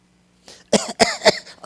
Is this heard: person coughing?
yes